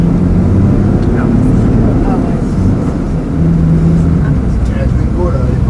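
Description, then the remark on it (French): A steady, loud low-frequency engine rumble fills the interior of a bus on an early Sunday morning ride from the coach station toward Locmaria. Faint murmuring voices sound underneath, with occasional higher mechanical whines and rattles. “En ce dimanche, c'est de bonne heure que nous avons pris le bus à la gare routière, tout proche de la Citadelle et dominant les bassins de plaisance et de commerce.”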